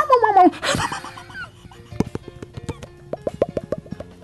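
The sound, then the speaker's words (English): A man voices a quick, high, falling dog-like whimper from his belly, then a series of short, wet popping plops ticks along irregularly, fairly loud. “Oh yeah, I made the dog noise too.”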